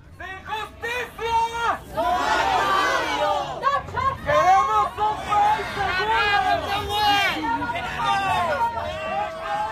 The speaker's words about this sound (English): So you can hear some parade onlookers there shouting at demonstrators, saying things like, get out of the way, like, this is not your day.